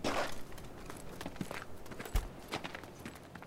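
footsteps

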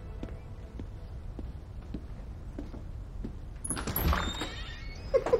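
front door opening

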